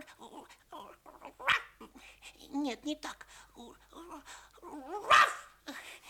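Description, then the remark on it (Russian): Two sharp, high puppy barks, apparently voiced by a person imitating a young guard dog barking at a stranger it takes for a thief, pop out loudly a few seconds apart, with talking before, between and after them. “Стой! Лаять буду!”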